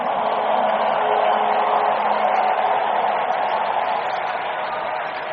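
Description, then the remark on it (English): A large crowd claps and shouts together in a dense, continuous roar of applause and cheering, steady and loud throughout without individual voices standing out, an audience giving a bigger clap and a louder shout of praise during worship. “Somebody excited, give him a bigger, bigger clap, a louder, louder shout of praise.”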